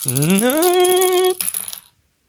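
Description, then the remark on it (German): A die spins on a hard tabletop with a whirring hum that climbs in pitch, then clatters briefly and settles to silence, rolled during a card game. No voices. “Wird immer schwieriger mit dem Auswürfel.”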